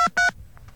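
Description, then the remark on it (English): Touch-tone telephone dialing after a second dial tone: two quick, loud dual-pitched beeps, followed by two much fainter, shorter tones, four digits keyed in rapid succession. “Now I'm going to dial four more digits.”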